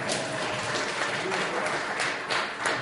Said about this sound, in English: I think that one deserves an applause.